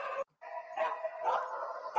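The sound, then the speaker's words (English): A dog used to screen vehicles barks and yelps almost continuously in video playback, fairly loud, with one short pause near the start and no one talking over it. “We screen the vehicles using the dog, and the only reaction we've had is to the car in the far corner.”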